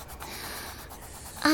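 Soft, continuous scratching of colored pencils moving across sheets of paper as people eagerly draw a bear, an eye and a microscope at a large table, a faint papery rasp, before a sudden louder tonal sound cuts in right at the end.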